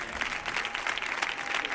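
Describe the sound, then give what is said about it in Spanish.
An audience claps steadily for two performers, a dense wash of many hands applauding together at moderate loudness, sustained throughout with no voices over it. “Fuerte el aplauso para ellos dos,”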